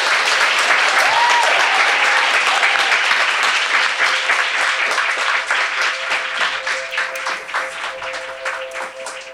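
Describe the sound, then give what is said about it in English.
An audience breaks into loud, sustained applause for a guest speaker, thanking her for her work. It is a dense wash of many hands clapping for about nine seconds, with a brief whoop early on and a slight thinning toward the end. “Let's give a big round of applause to Arianna.”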